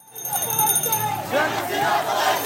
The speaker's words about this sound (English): Tens of thousands of protesters flooded to the streets of the capital, Dhaka, cheering, beeping. Some smashed symbols of the former prime minister and her party.